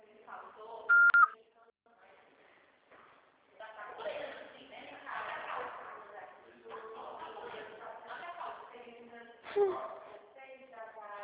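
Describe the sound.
A single short, steady high-pitched answering machine beep sounds loudly near the start, followed by several seconds of people talking over low background noise.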